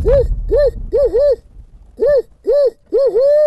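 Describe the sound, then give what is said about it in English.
A person imitates a barred owl's hooting call to try to call in a barred owl: a rhythmic series of about eight loud, rising-and-falling hoots in uneven groups, the last one drawn out, with no talking. “We're just going to move up here about a quarter of a mile and then get out, and I'm going to try to get a barred owl in”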